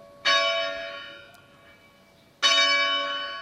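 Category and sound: signal or alarm, church bell striking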